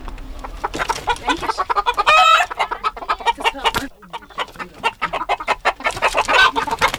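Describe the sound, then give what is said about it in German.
A flock of ducks quacking busily, their overlapping calls forming a dense, continuous chorus with no one talking, briefly dipping quieter before picking back up. “Bis dahin gibt es jetzt ein bisschen Entensound.”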